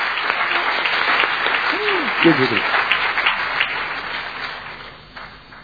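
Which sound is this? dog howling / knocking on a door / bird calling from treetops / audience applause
audience applause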